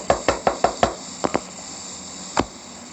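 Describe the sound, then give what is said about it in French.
A quick series of five sharp knocks on a door, then two more after a short pause and a single final knock, crisp with no voices; a traffic police motorcyclist is knocking. “À ce moment-là, on frappe à la porte.”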